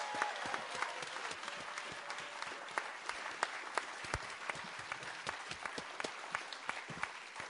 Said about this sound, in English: And hey, you know, this is a slam. Give yourselves a warm round of applause. The audience who've come tonight.